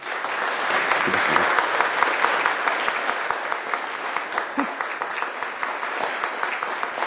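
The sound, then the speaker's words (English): A large church audience stands and applauds steadily to show appreciation, a dense wash of many hands clapping at once that holds at an even, fairly loud level throughout, with a faint murmur of voices underneath. “I'm going to ask that you would stand and give them a round of applause.”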